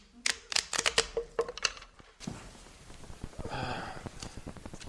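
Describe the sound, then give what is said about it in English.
A deck of cards is given a fast shuffle before a card reading, a rapid run of sharp papery snaps followed by a softer, denser riffling flutter. “Give it a shuffle. This is what's called the fast shuffle.”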